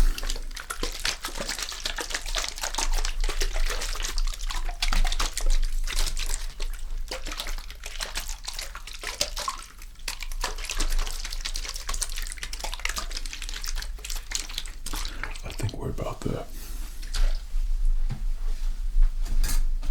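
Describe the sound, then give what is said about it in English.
Steady splashing and trickling of water being worked through wet hair by a professional barber's hand movements, spreading the water evenly over the hair, with frequent soft crackles and rustles and no speech. “Okay, making sure that all the hand movements are appropriate and all water is evenly displaced on your hair.”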